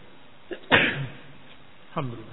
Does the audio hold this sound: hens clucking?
no